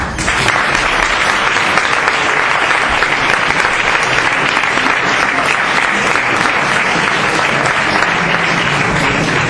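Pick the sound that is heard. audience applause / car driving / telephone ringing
audience applause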